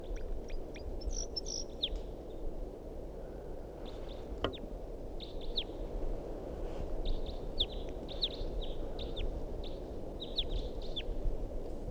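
A wild bird calls repeatedly from a big pine tree above a net, sharp chirps and short high whistled notes coming in clusters over steady low rumbling background noise, with no talking.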